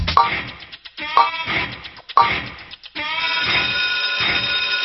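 A game-show countdown clock, set to 3 seconds for a quiz answer, plays loud, bright electronic tones pulsing about once per second for three beats, then holds a long, steady buzzing tone to the end, with no voices.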